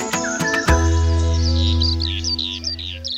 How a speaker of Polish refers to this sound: Piękny śpiew skowronka, który zwiastuje właśnie wiosnę.